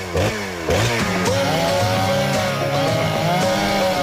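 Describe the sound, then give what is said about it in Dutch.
A chainsaw engine runs loud, revving up in a few quick surges before settling into a steady, buzzing whine with slight pitch wobbles. “Tijd voor de zaagplaat. Hup, kettingzaag aan.”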